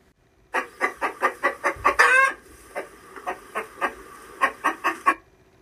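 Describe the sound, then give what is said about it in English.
A chicken, chased by children across a park, clucks in a quick, steady series of short, loud pulses, with a brief squawk partway through and a few more clucks trailing off at the end. “The children raced after the chicken.”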